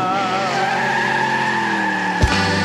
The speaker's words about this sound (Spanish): Si oye el rugir de un jaguar, pero no era el de la selva. Era un expedition verde que rugía como una fiera. Corriendo carretera.